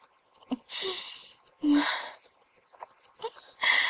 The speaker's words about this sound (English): My breathing is quickening.